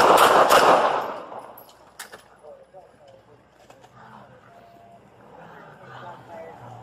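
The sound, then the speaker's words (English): Several loud gunshots crack in quick succession at the start, followed by a single fainter shot about two seconds later, then muffled voices and low background noise; police body cam footage of a July 30 incident in Vancouver, Washington, released by the Clark County Sheriff's Office, in which a deputy shot and killed a man. “releases body cam footage of a July 30th incident and where a deputy shot and killed a guy”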